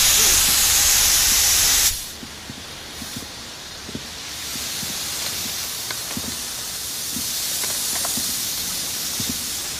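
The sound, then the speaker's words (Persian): A loud, steady blast of steam hisses from a vent for about two seconds, then cuts off abruptly, leaving a quiet hum with scattered faint clicks and taps. “ما رد حرارتی رو دنبال کردیم از دریچه بخار تا اوسایریس.”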